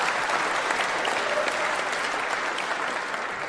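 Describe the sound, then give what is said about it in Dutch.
A crowd applauds steadily for the volunteers who have been working since the afternoon, a dense wash of many hands clapping at an even, sustained level throughout with no voices standing out. “Dus even een warm applaus voor al die mensen die al vanaf vanmiddag bezig zijn.”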